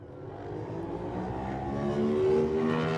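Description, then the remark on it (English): A racing motorcycle, Joe Yeardsley's Scott Racing Motorcycles Aprilia, revs hard and accelerates away at the start, its pitch climbing steadily with a loud, continuous whine over about three seconds, no voices present. “He's away.”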